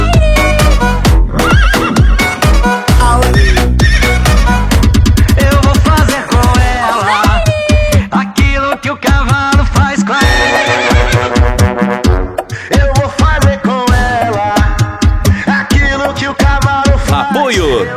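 Loud horse whinnies and neighs ring out repeatedly over a dense, rhythmic backdrop of steady beats that fills the whole stretch, with no pauses in between.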